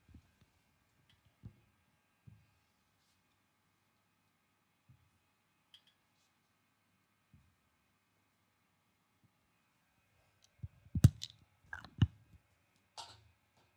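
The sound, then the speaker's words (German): Big thick markers drawing a graphic on a surface: a few scattered soft taps, then a burst of quick scratchy strokes and clicks near the end, with no talking. “Und ich zeichne jetzt euch eine wunderbare Grafik, die ihr nie mehr werdet vergessen.”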